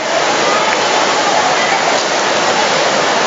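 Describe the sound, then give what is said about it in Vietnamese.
A dense, steady roar of heavy rain pouring down, loud, filling the whole stretch without pause, like water hammering onto a surface. “đi thẳng vào, mưa ướt hết bây giờ”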